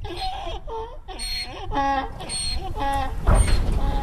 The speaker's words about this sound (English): In the Sonoran Desert, the loudest animal sound you're likely to hear, if you're lucky, is the braying of a wild burro.